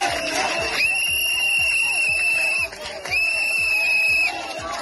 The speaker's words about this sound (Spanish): Pitos y abucheos, gritos de fuera a fuera